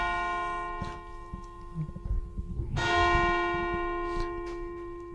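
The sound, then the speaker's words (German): Small bells ring out with a bright, lingering shimmer, struck again midway so the tones swell and hang in the air, with faint handling clatter underneath and no voices. “Tun Sie die Glocken wieder auf das Kissen legen.”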